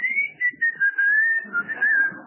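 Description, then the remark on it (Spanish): A pressure cooker's escape valve lets out a steady, high whistle as the pot gets hot, drifting slightly lower in pitch over a couple of seconds, with faint low rumbling and clatter underneath. “Bueno, tampoco le hace una melodía, pero que va a escuchar que un silbidito que hace la...”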